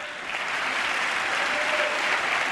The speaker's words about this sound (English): That applause, I gather, is bipartisan applause. Yes, people jumped to their feet. This was one place where Democrats, Republicans agreed wholeheartedly, and that there should be some kind of jobs program for the returning warriors, as they call them